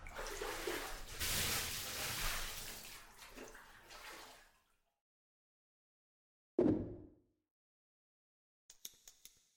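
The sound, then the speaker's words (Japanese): Water pours and splashes steadily for several seconds as someone's body is washed before a lotion is used, then stops; a single splash follows after a pause, and a few faint drips or taps end it. “あ、でもまずは先に体を洗って差し上げます。”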